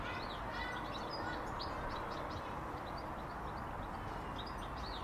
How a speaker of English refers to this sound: I think it's a sparrow.